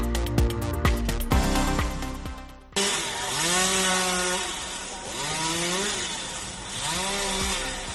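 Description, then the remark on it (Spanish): A short burst of music gives way to a loud chainsaw felling a tree beside the Catedral Primada in the Plaza del Ayuntamiento, Toledo, its engine whining steadily and repeatedly revving up and down in pitch, with no voices. “Y sí, este es el sonido que hemos escuchado esta mañana en la plaza del Ayuntamiento en Toledo, y el protagonista, el árbol que está junto, uno de los árboles que está junto a la Catedral Primada de Toledo, porque ha sido talado.”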